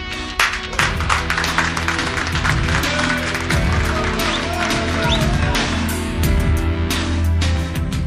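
An audience applauds with dense, steady clapping that holds at a loud, even level for the full eight seconds, a low tonal hum running underneath the crackle of hands.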